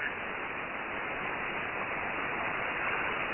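Steady, even radio static hiss fills the whole stretch at a moderate, unchanging level, with no voices or signals breaking through the empty band.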